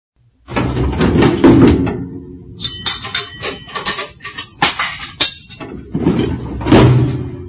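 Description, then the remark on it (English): A kitchen drawer under the oven slides open with a long rumbling scrape, followed by several clattering knocks and clinks of a big pot being pulled out, then another sliding rumble as the drawer closes. “And do you know where the big pot is? It's in the drawer under the oven.”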